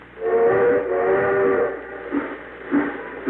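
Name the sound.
steam train whistle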